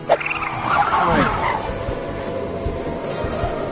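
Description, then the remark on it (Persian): A car engine revs up and drives along, its pitch sweeping up and down before settling into a steady rumbling hum. It's fairly loud, with no voices. “بریم سوار ماشینمون بشیم. این دفعه من میرونم.”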